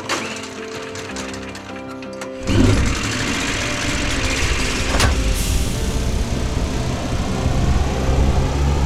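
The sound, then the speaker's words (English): After a few seconds of steady tonal humming, the engine of an electric flying ship abruptly roars to life and settles into a loud, continuous mechanical whir and rumble that runs to the end. “Now it's time to start the engine!”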